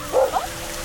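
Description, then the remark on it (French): A dog gives two quick barks in close succession over a steady wash of running water from a fountain in a city park. “Les gens lâchent leurs chiens dans la fontaine.”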